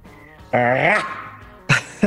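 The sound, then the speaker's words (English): Wynonna Judd lets out a short, playful growl, a raspy voiced sound that swells and bends in pitch for about half a second, followed by a quick breathy burst. “Well, I know people are looking forward to hearing that Wynonna growl.”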